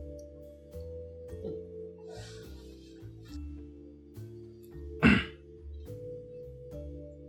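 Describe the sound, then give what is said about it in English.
A single loud, rough throat-clearing burst rises briefly over steady music with sustained tones, standing out near the end before the music carries on alone. “Clear your throat.”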